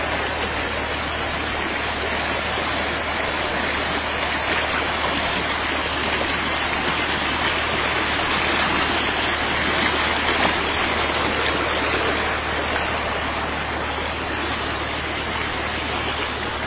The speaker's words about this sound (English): See the beautiful creek.